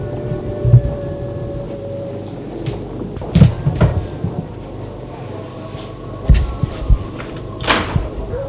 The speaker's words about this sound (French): La porte s'est ouverte, c'est un domestique.